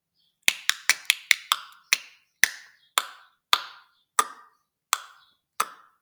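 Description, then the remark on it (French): Water drips and splashes in a series of about a dozen crisp, ringing plinks, rapid at first and then slowing into a sparse, irregular drip, with no voices. “Quelques gouttes s'échappent dans un bruit de clapotis.”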